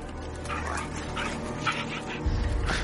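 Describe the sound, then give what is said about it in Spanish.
Several dogs with soldiers combing a dense forest bark and whimper in quick, overlapping bursts, with a steady low rumble underneath that swells toward the end. No one speaks. “Militares con perros peinan el bosque frondoso.”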